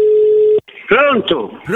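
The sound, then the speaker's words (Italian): A steady, single-pitched ringback tone sounds once through a phone line, then cuts off and a voice answers and starts talking. “Vabbè, sentiamo se qua avremo maggior comprensione. Soprattutto se risponderanno ai telefoni.”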